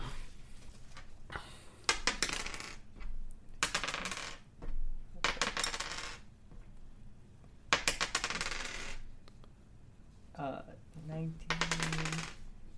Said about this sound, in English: I cast sleep on her. Okay. Roll your dice.